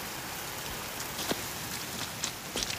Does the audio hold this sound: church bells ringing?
no